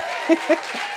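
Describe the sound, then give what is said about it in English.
Audience applause fills a brief moment as a steady wash of clapping, with a couple of short vocal whoops or cheers rising above it. “When people clap for me, it makes me energetic.”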